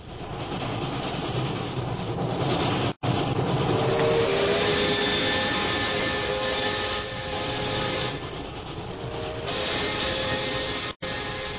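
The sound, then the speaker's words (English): A train bound for Calcutta rolls steadily along the tracks, a continuous loud rumble with a rattling, clattering texture and faint high squealing tones, with no voices. “Several days later, we find Jungle Jim and Shanghai Lil on a train bound for Calcutta.”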